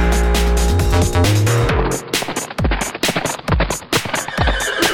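A horse whinnies loudly over busy, upbeat music, followed by a run of sharp, rhythmic clopping hits with a few low swooping sounds, all dense, with no talking.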